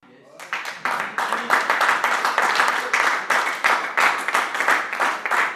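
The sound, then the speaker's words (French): A crowd in Ajoie, Porrentruy district, bursts into sustained applause at the unanimous vote result approving a 30 million franc credit for the Brun-Trutin school, many hands clapping in a dense, steady patter that starts abruptly and stays loud throughout, with a faint murmur of voices underneath. “Ce sont des applaudissements qui ont accueilli le résultat unanime des communes ajoulottes.”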